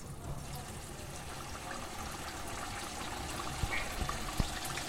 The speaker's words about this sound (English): Now pick it up and very gently place it in the hot oil.